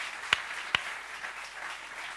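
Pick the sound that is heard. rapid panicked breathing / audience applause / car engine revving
audience applause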